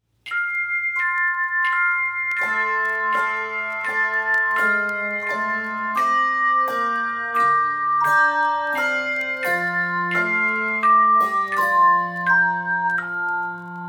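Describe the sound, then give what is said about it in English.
A handbell intro for the carol O Little Town of Bethlehem, with clear ringing strikes in a steady hymn-like rhythm, tones overlapping and sustaining as chords build. Moderately loud, no voices. “Decorate carols right out of the hymn book with carol ornaments, intros, interludes, and endings for six carols.”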